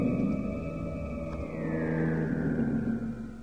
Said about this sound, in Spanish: Distingo, entre el ritmo lento y distante de las máquinas, una aguda sirena que marca el cambio de turno del personal.